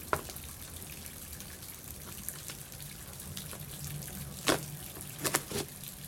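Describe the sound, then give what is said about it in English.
Steady, soft rain hisses in the background, with a few sharper drips or taps landing near the end. No voices are heard. “The sound of rain is great.”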